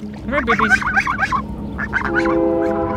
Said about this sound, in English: A few minutes later, she wanted to show me her geese. I don't think I've seen geese in a long time. I'm about to. Are these your ducks? Those are real geese?